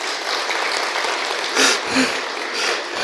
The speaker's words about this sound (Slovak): Ale že zatleskajeme im.